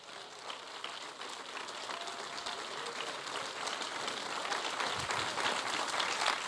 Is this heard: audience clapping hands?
yes